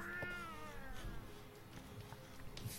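A cat lets out a long, drawn-out meow that slides downward in pitch, fairly loud, followed by softer rustling and small sounds in the background.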